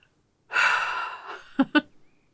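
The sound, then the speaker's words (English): A drawn-out yawn: a long breathy inhale that trails off into two short voiced sounds at the end, with no talking around it. “Call my yawns cute.”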